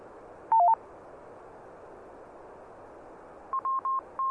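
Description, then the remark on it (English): A radio repeater courtesy beep: a quick two-pitch electronic chirp, then a later run of four short, evenly spaced mid-pitched beeps, all loud over a steady background of radio hiss with no talking. “this guy was so low in the audio that the courtesy beep had a substantially louder deviation than that fella's audio.”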